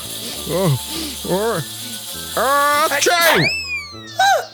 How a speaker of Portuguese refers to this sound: Sem dar mais tempo de alguém chegar, o jacaré bufou e começou a ofegar.